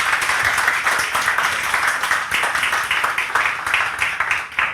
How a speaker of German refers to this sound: Also großen Applaus für die beiden und die Bühne gehört euch.